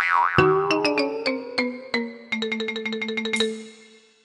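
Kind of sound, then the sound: signal or alarm, phone ringtone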